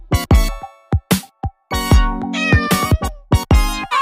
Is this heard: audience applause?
no